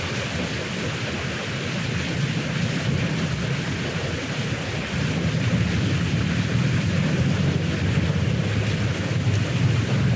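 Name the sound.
ocean waves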